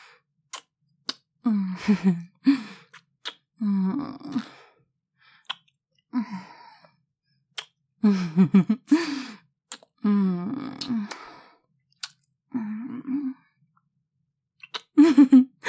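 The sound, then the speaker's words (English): Repeated breathy vocal sounds, with sharp gasping inhales and sighing, voiced exhales, come in short irregular bursts. Quick wet clicks are scattered between them, and nobody speaks. “Was that a gasp? A sharp inhale, at least.”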